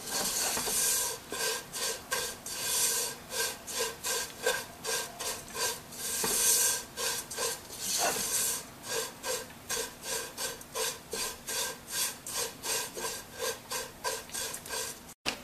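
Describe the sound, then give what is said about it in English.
Food that has been roasting for about two minutes is stirred in a hot pan on the stove: steady, rhythmic scraping strokes, roughly one or two per second, over a continuous faint sizzling hiss, with no one speaking. “So it's been roasting for about 2 minutes.”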